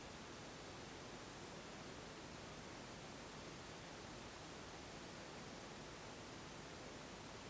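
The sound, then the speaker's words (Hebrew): Steady, even rainfall hisses without pause, a dense wash of soft patter that fills the background at a low, constant level with no voices present. “ואם אני שמה לב למגע של האוזן עם צליל, אז איך זה מרגיש לשמוע את הגשם?”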